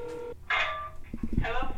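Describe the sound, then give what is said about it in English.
Telephone dialing tones come in a few short electronic bursts, fairly loud, with faint background murmur and low thumps between them, as a man dials a phone call to his lawyer at a U.S. Marshal's office. “He makes a final phone call to his lawyer.”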